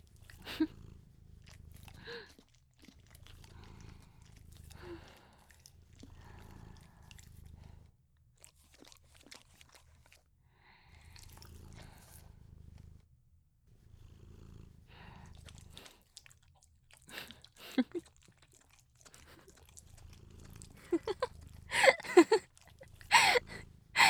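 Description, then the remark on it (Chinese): A cat licks an ear with repeated soft, wet, rasping strokes in an uneven rhythm, a low purr rumbling underneath, and the licking grows louder and more crackly toward the end. “来，不要再舔奇怪的耳朵了，我开罐罐给你吃哦。”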